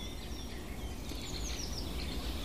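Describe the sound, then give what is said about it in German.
A woodpecker gives a run of sharp, high scolding calls in the morning among cherry trees in white blossom, over a steady background hiss, with other faint bird chirps mixed in. The calls are fairly soft and come in a quick, repeated sequence. “der schimpft der Spechte.”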